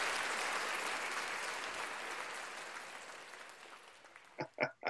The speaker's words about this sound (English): I like the applause. That's nice.